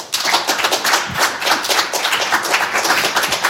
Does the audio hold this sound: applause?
yes